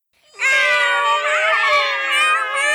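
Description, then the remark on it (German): Cats meowing in a loud, drawn-out, wavering yowl that starts abruptly and holds steadily for a couple of seconds, with no talking. “Ich verstehe kein Wort. Ist dir vielleicht ein Felidex, der uns helfen kann? Ah, Nova, was wollen die Katzen denn?”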